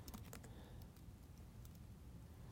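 Crisp computer keyboard typing: a quick burst of keystrokes at the start, a pause, then a few more scattered clicks over a steady low hum. No one speaks.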